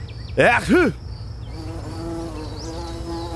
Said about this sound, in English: Ooh, look. It's a little bee. Bee sting. Get it away.